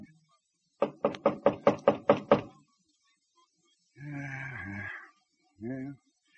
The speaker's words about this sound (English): At dusk, hungry, dirty, tired, he turns into the lane leading to a ranch house, the Double R Bar Ranch. He knocks at the door.